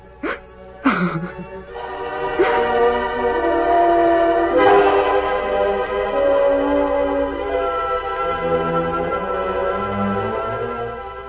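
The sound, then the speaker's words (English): A train rolls past on a railroad near a ravine east of Elk City, its steady mechanical rumble filling the air while a loud, harmonic whistle sounds in several long blasts, with no voices. “We'll wait here in this ravine till the train goes by, Tonto.”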